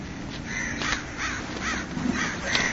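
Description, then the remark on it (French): Several crows in a flock overhead caw repeatedly in harsh, overlapping calls, about half a dozen raspy bursts over a steady background hiss, with no one speaking. “Mais c'est vrai qu'il y a beaucoup de corbeaux.”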